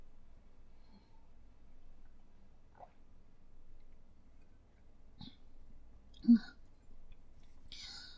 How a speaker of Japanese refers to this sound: その前にお水飲む。もう一回。